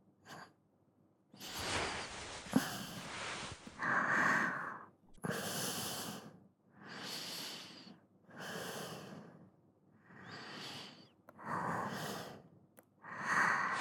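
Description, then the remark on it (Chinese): Close-miked breathing, slow and steady, with about eight audible inhales and exhales in an even rhythm, each a soft airy rush. No one speaks. “你离我这么近，被你包裹着，光是听见你的呼吸声，我就会觉得非常幸福。”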